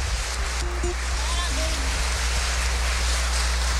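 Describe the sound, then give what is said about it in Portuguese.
A crowd applauds children steadily for several seconds, the dense clapping blurring into an even, hissing wash, with a low hum and a few faint brief tones underneath. “Vamos dar uma salva de palmas para nossas crianças.”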